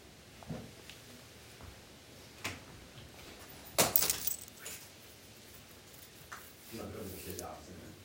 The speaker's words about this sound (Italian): Continuo a buttare ghiaccio? Sì.